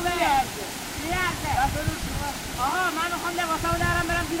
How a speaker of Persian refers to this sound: برو بچه ها، بچه ها دارن میرن طرف آبشار.